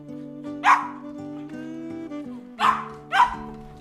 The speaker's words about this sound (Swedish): Nu lyssnar vi på världens räddaste hund.